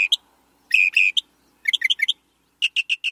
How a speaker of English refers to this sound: Some birds have a lot to say, but few surpass the northern mockingbird. Within its range in the U.S., which is most of the country except the northern west and midwest, you'll recognize the mockingbird song instantly.